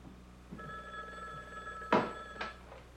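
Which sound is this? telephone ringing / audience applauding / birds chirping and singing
telephone ringing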